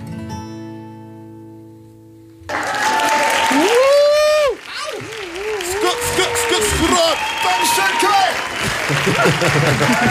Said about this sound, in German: Das ist die ganze Redaktion, die da gerade klatscht. Ganz Köln ist gerade vorbeigekommen. Köln, ganz Köln klatscht heute.